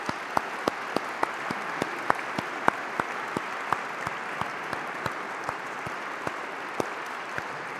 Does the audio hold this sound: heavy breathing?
no